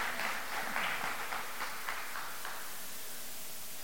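A crowd claps its hands in praise of the Lord in a steady, dense patter that is fairly soft overall, tapering off toward the end into a faint, hissy wash. No one speaks.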